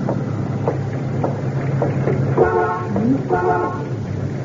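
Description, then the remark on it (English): A car horn honks twice in short, blaring bursts, the second a bit longer, over a low rumbling background of street noise and wind. “You honking for me, mister?”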